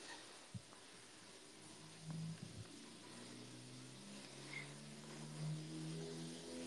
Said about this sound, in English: And yet somehow the car is still louder.